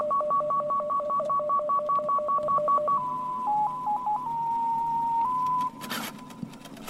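A Russian shortwave numbers station tone signal, broadcast at a fixed airtime: a rapid, even run of paired electronic beeps, then long steady tones stepping between pitches, over faint radio hiss, ending with a short burst of static.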